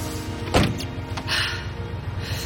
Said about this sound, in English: Outside, Paul sits in his car. Faith knocks on the window. He gestures, and she gets in.